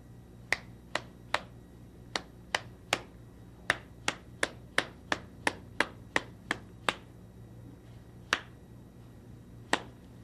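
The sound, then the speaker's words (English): Hands clap out a song's rhythm so that someone can guess the song from the claps alone: about nineteen sharp, crisp claps in an uneven pattern with a few short pauses, over a faint low hum. “I'll clap a song.”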